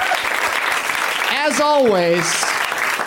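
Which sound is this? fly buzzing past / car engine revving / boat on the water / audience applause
audience applause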